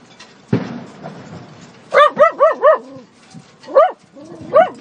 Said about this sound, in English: I won't have the dog barking at people then.